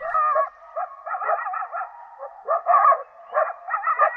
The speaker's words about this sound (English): Closer to home, coyotes howl in an eastern Washington canyon.